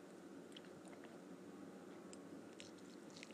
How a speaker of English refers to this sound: I'm drinking a fresh glass of ozonated water. Ozonated for 20 minutes. Can you hear how good that tastes? My goodness, that's fresh.